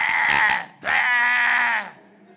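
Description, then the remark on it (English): A sheep bleats twice in close succession, a short wavering cry followed by a longer, sustained quavering bleat, loud with no other sounds. “yelping and crying and everything.”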